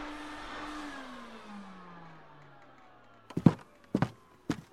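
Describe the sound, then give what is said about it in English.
A vacuum cleaner drones loudly, its motor whine sinking in pitch as it powers down and stops, followed by three distinct footsteps. “He switched it on and began to clean the carpet.”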